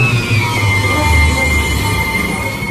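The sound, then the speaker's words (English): A steady electric subway train whir deep beneath the U.S. Capitol building in Washington, D.C., with low rumbling motor hum and faint high whine, loud as it runs continuously through a compact tunnel system linking congressional office buildings. “Deep beneath the U.S. Capitol building, there runs an electric subway.”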